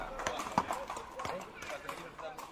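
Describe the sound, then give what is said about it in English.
Horse hooves clip-clop in a steady, unhurried rhythm, several hard knocks ringing out while a voice carries on underneath. “LOL, his horse.”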